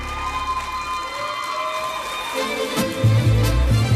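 A live audience breaks into sustained applause and cheering, a dense wash of clapping that stays steady and fairly loud throughout, with a low rumble joining near the end.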